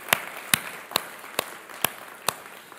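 Six sharp, evenly spaced claps ring out in a steady rhythm, each a crisp slap over a faint hiss of background noise, with no one talking.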